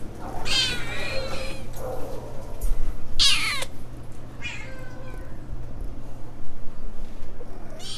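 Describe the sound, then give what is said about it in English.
Several cats meow in turn in a cat café in Oakland, a few short, strained cries spread across the stretch, some fairly loud, over a steady low background hum with no one talking. “I mean, I figured once we, like, got in here and we met all the cats that it would be impossible to just, like, walk out without a cat.”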